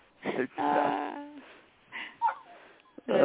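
dog barking

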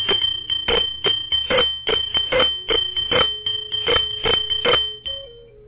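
hand bell being rung

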